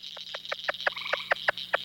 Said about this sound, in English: Frogs are a lot more active and do a lot more calling in that period of time after a rain, particularly if you can do it the day after a rain, or if you get a rain in the afternoon and go out and do it that evening, they just croak away.